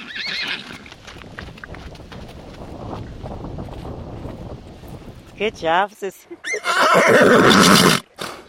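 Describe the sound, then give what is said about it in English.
A mare gives a loud whinny near the end, preceded by steady hoof clip-clops and shuffling outdoors, with a person speaking briefly over the movement. “Sis is not the type of horse that she's going to be okay with just a pat on her back.”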